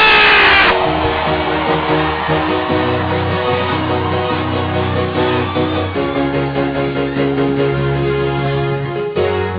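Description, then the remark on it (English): A loud crowd shouts and cheers continuously over steady, driving band music with a drummer, the roar of voices filling the whole stretch without letting up. “Make it louder, louder, louder. Victory! Somebody shout!”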